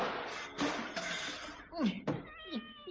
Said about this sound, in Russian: Она стала подкрадываться, потом прыгнула, и маятник, и часы, и нарисованная кошка с ужасным грохотом и мяуканьем упали на пол.